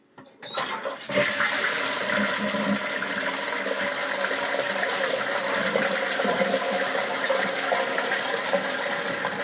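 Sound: toilet flushing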